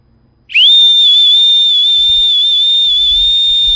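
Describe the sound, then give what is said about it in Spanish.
A shrill, sustained boatswain's pipe whistle, blown by a ship's boatswain at 1:30 in the morning, sounds loud, rising sharply at the start and then holding one piercing, slightly wavering note for several seconds, with faint low rumbles underneath. “¿Pero ese es el chifle?”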